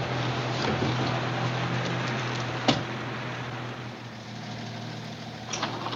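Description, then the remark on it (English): A tow truck's engine idles steadily, a low continuous rumble with a brief metallic clunk partway through and a faint knock near the end. No one speaks. “The guy gets out of the tow truck, pulls it into a shed of some kind.”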